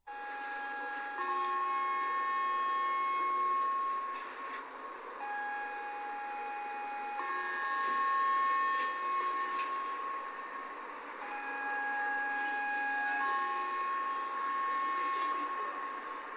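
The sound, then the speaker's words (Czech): An old-style two-tone fire engine siren, signalling a fire alarm and now rarely used on fire engines, alternates steadily between a higher and a lower pitch a fourth apart, each tone held for about a second or more, over a low background rumble. “Tento interval kvarty, který jste mohli slyšet a který se teda dnes už moc na hasičských autech nepoužívá, označuje požární poplach a to, že to neoznačuje například podomní rozvoz mléka, je opět pouze věcí dohody”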